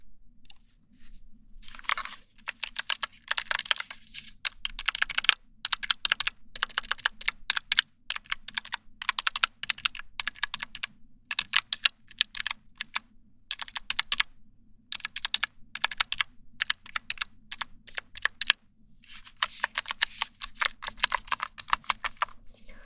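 Rapid clicking of the small plastic keys of a wireless numeric keypad being tapped in uneven bursts with brief pauses, a crisp, dry typing sound with no voices.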